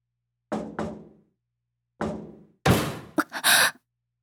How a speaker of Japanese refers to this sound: 私の発した声を捉えたのか、その誰かは激しくドアを叩き始めた。しびれを切らして怒ったのか、私が反応したことに喜んだのか、どちらにも取れる。